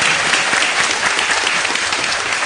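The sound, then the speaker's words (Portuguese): Steady applause from an audience, many hands clapping in a dense, continuous wash that stays loud and even throughout, with no voices standing out, applauding the scouts. “Uma salva de palmas para os escoteiros.”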